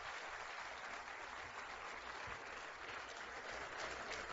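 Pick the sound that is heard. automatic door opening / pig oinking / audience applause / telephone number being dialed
audience applause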